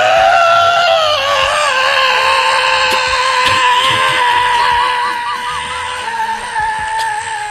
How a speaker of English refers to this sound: Just then, Goldie Pops woke up and saw the three bears. He screamed.